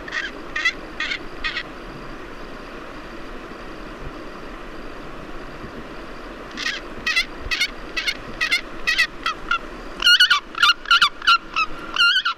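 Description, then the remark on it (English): A Pallas's fish eagle gives series of harsh, honking calls in rhythmic bursts, each run of notes growing louder toward the end, over a steady low outdoor hum. No one speaks. “here is the real sound of a Pallas's fish eagle collected by Matthias Richard”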